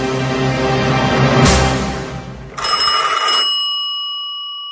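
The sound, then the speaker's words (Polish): A telephone bell rings loudly late in the evening in Normandy, in a rapid metallic trill, stops briefly, then rings again in a second burst that ends on a lingering, fading bell tone. “Telefon zabrzmiał późno wieczorem.”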